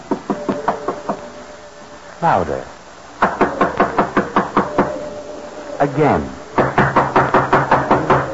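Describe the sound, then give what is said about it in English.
Several bursts of firm, rapid knocking on the door of a place where travelers whose car motor died seek shelter, each a quick run of sharp raps, with short pauses between them where a voice speaks briefly. The knocks are loud. “Knock, George. Knock.”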